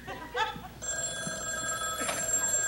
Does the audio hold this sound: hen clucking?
no